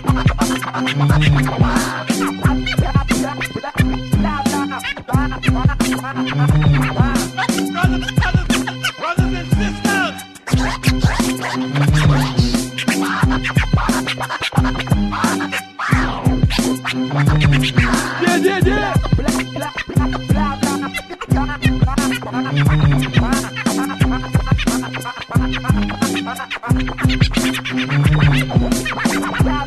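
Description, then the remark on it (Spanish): A DJ scratches on the turntables, ripping back and forth in quick, choppy bursts over a loud, steady hip-hop beat with punchy kicks repeating throughout; no voices, just the scratches riding the rhythm. “Yeah, … en los platos.”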